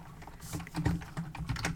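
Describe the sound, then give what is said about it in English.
Rapid clacking of a mechanical keyboard, a quick run of sharp, uneven keystrokes with no one speaking. “Yeah, I'll get to hear my deafening keyboard, which I'm definitely going to edit out or have edited out because mechanical keyboards is not a good look for a podcast.”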